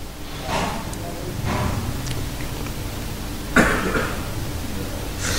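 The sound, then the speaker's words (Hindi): Several harsh coughs in a short burst from someone whose throat has had a cough and phlegm for about 15 days, with a sharper throaty cough standing out near the end over a steady low background noise. No talking. “अरे कृष्णा माफ करना, मेरा भी गला इतना क्यों कई दिन से खांसी कफ कितना, पहले तो एक दो तीन दिन में खत्म हो जाता, अब तो 15 दिन से बराबर ये सारी प्रॉब्लम, तो इसलिए गले की इतना बुरी तरह हालत खराब हुई है कि मैं तो सोच भी नहीं सकता।”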